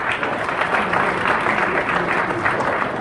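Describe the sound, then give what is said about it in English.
Steady applause from an audience at a gathering about Shabbos in a yeshiva, a dense wash of many hands clapping at an even loudness for the whole stretch, with no voices standing out above it. “Clapping works from the audience, not from up here.”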